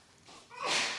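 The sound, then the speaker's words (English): A single sneeze: a short breathy intake followed by a loud, hissy burst of air that peaks and trails off within about a second, with no talking. “Bless you.”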